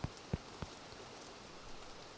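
A few soft, scattered drops strike a surface in the first half-second, like rain just beginning, then only a faint, hushed patter of drizzle remains. No one speaks.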